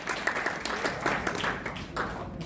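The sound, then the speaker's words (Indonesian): A crowd claps and applauds steadily for everyone present, a dense patter of many hands at moderate loudness, with no one speaking over it. “Oke, tepuk tangan buat kita semua teman-teman.”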